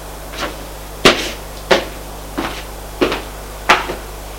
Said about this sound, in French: Frappe à la porte.